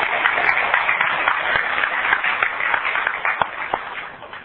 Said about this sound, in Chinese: 那么现在让我们以热烈的掌声欢迎王教授为我们演讲。谢谢王教授。